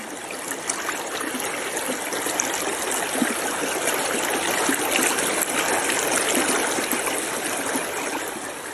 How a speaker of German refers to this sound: Stellt euch vor, es ist ganz warm und lauscht einfach mal diesem wunderbaren, herrlich frischen Bergflusswasser, wie es da so entlang plätschert.